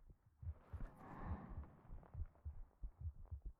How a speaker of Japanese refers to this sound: こうやって誰かの熱を、鼓動を感じることで少しでも安心していただけたらと。生まれたばかりの赤ちゃんは 母親の心臓の鼓動を感じることで安心すると言います。